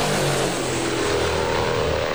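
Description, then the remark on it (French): The eight propellers on the four engines of a Russian Tupolev 95 bomber, a roughly 70-year-old Cold War aircraft with over 50 metres of wingspan, drone steadily and loudly, a dense continuous roar with deep low throbbing tones and broad rushing noise, unbroken, with no voices. “Le bruit des hélices, elles sont 8 accrochées aux 4 moteurs de ce dinosaure désert.”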